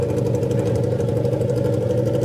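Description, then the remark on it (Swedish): A motorcycle engine idles steadily in the pits, a continuous loud low rumble with a fast, even pulsing throb and no voices. “Mange, vad är det som låter? Ja, det är sista motorradgelåten.”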